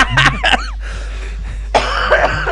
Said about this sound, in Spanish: esta vez ha tenido el detalle de no toser directamente. Va a ser así, por poco. Ha hecho teatro. Le he pedido. Una deferencia, ¿no? Hacia los compañeros, sí, que vienen luego. No toser directamente en el micro.